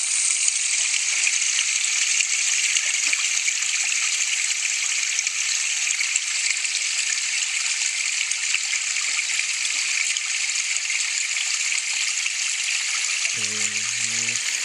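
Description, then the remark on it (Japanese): A small, narrow headwater mountain stream rushes steadily over rocks, recorded on a smartphone: a continuous bright babble of water with no pauses; near the end a brief low voice briefly cuts in beneath the flow. “なかなか街中ではね、こういった川はすごく、あの鴨川とかこの辺でも流れたりとかするんですけども、やはりこういった源流域の、細い、川というのはなかなか音を聞くことはこの辺ではできないかな。”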